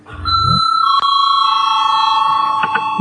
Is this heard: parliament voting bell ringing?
yes